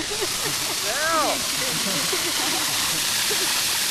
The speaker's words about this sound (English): Okay, so you can just stick it out, and I'm just going to shoot water in the air from just by getting all the water out of the line.